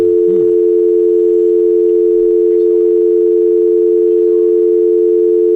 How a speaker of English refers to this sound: It's a dial tone.